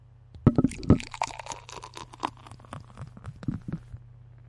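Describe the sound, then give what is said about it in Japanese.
Festbier glugs and splashes as it's poured into a glass, with a burst of gurgling at the start, then softer irregular fizzing and bubbling as foam rises until the glass is mostly foam. No one speaks. “わわわ、泡が泡が。”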